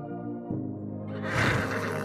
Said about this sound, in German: Schnaubend und wiehernd begrüßen uns zwei stattliche Gäule, die vor einen riesigen Planwagen gespannt sind.